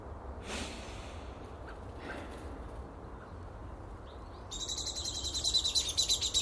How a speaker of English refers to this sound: That was Mrs. Blackbird. 10 feet up there, and now there's a scrap.